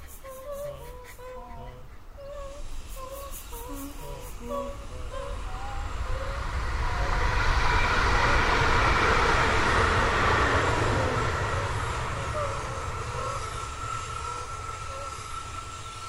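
An S-Bahn commuter train rushes past with a broad roaring whoosh that swells to a peak mid-clip and slowly fades, while birds chirp and sing over it throughout.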